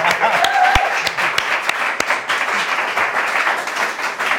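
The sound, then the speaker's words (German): A short burst of audience applause for Emre Can, who is seated in the audience. Dense, steady clapping with a few sharper individual claps standing out early on, continuing evenly throughout with a faint voice briefly underneath. “Ich würde sagen, kleinen Applaus für Emre Can.”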